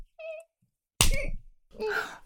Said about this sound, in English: Oh, God. You clenched on his dick when I slapped your ass, didn't you?